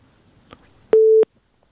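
A single loud beep of a telephone busy tone, a steady mid-pitched pulse lasting about a third of a second, follows a faint click and quiet background hiss, then silence, after a caller's call drops during a New Year phone-in show.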